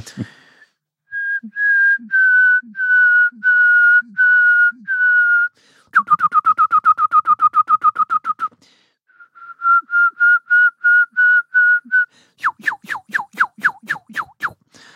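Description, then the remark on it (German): A person whistles an imitation of a songbird's song in several phrases: a run of steady repeated notes, a fast rattling trill, another series of even notes, then quick rising sweeps. Clear and loud, no talking. “Ja, also ich kann ihn zum Singen bringen.”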